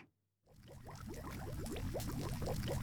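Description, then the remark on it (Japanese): After a brief moment of silence, a thick stew starts bubbling steadily in a large alchemy cauldron as it is finished by alchemy, with rapid, regular glugging pops over a constant low rumble, fairly loud. “錬金術でシチューを完成させるよ。”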